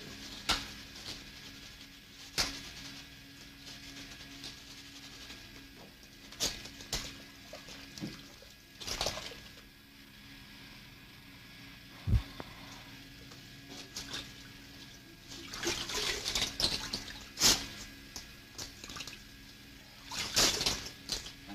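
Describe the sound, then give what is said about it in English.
Water comes down in uneven hissing bursts, splashing and pouring louder at moments against a steady low background, with a few sharp knocks in between and no voices. “Operating right now? Yes. As soon as water comes down.”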